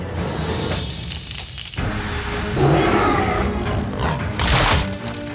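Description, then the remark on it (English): A loud clatter of coins spilling out of a large money pouch, bright metallic jingling and tinkling in several overlapping bursts, with dull thuds underneath and no voices. “Gisela heard the tinkle of coins as the large money pouch spilled its contents.”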